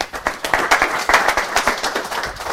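A crowd applauds steadily, many overlapping claps forming a dense, lively patter that stays fairly loud and even for a couple of seconds.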